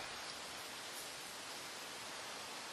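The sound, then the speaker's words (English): Soft, steady rain falls in the cool of the evening in an even, continuous hiss with no distinct drops standing out, fairly quiet and unbroken, with no voices present. “The ease of the rain, the cool of the evening, a voice in the dojo.”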